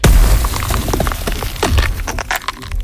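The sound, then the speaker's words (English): A crackling, shattering ice spell effect, turning its target to ice, with a heavy low thump at the start, followed by a dense flurry of sharp, glassy cracks and tinkling high fragments that keep splintering for three seconds. “You get turned into a popsicle by an ice spell.”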